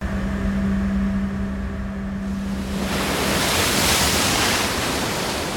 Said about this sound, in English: That's a transition. Yeah, it is. Yeah. That's the tweet. Yeah. Going into water. I like water noises.